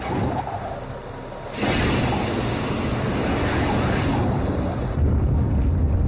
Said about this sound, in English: And the jetpack's 8 engines light up for about 40 seconds.